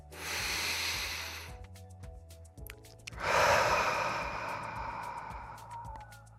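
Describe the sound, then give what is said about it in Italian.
Two long, deep breaths taken as a 'breath of the earth' breathing exercise: a rushing inhale followed after a short pause by a fuller, drawn-out exhale, with faint low music humming underneath. “E allora con questo respiro di... Respiro della terra.”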